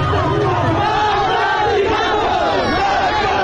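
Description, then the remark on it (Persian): A large protest crowd in the streets of Zahedan, Iran, chants slogans such as "Death to Khamenei" and "Death to the IRGC" at a Friday protest, many voices shouting together in a loud, steady roar with rhythmic rises and falls throughout. “این جمعه هم فریاد مرگ بر خامنه‌ای و مرگ بر سپاهی خیابان‌ها را پر کرده بود. و شعارهای دیگر.”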